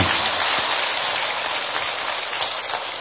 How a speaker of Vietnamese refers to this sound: Thì xin quý vị dành một tràng pháo tay để hoan hô thầy chủ trì.